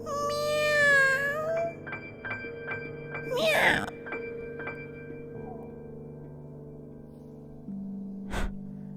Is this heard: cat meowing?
yes